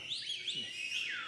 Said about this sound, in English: Bunch of canaries here. What's going on? Don't try and upstage me with your whistling.